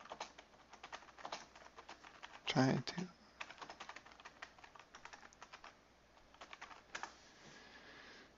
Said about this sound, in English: So, hold on. Ah, nuts. I'm typing in the wrong screen.